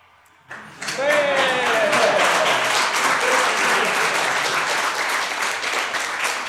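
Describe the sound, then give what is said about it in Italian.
After a brief quiet moment, loud, dense applause breaks out and carries on steadily to the end, with a few cheers or whistles rising over the clapping early on. The applause comes from a Facebook Live stream left playing in a pocket. “Poi Radio Revolution ci dirà da dove arrivare l'applauso, forse da un altro sito.”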